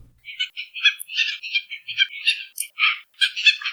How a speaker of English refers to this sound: Today's Mono Minute, we hear the calls of seabirds whose long red feather tails are prized for featherworking.